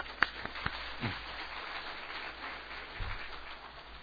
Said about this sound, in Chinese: 我们鼓掌欢迎他。